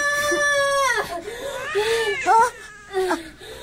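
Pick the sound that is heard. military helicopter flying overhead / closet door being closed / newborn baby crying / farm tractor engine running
newborn baby crying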